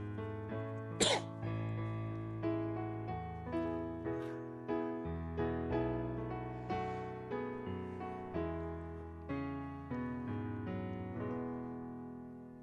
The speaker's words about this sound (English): Did I cough on beat there? Was that? Yeah, it's perfect, buddy.